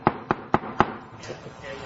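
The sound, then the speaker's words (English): Four sharp, evenly spaced knocks on a door rap out in quick succession, loud and crisp, followed by a faint, quieter stretch of low background sound. “It's when they hear a knock on the door.”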